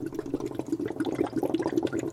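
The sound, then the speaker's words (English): Steady, dense bubbling and gurgling of yeast fermenting in beer, moderately loud, with rapid irregular pops continuing throughout and no voices. “The sound of happy, bubbling yeast fermenting away is music to Maureen Fabry's ears.”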